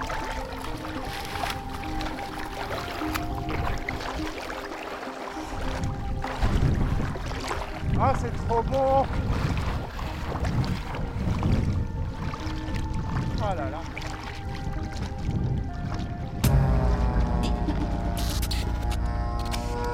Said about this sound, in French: Voilà les amis, c'est avec cette baignade dans une eau de Loire déjà trop chaude pour la saison, alors que nous ne sommes qu'au début de l'été